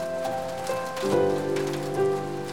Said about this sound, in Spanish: El ruido del techo ya no era solo lluvia, era un recordatorio. Cada gota parecía decirle que no podía rendirse.